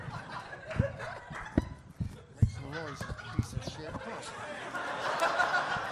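A small Woot Monkey toy is violently shaken, giving a string of sharp knocks and thumps with chirpy, chattering squeals rising and falling over them, growing busier toward the end.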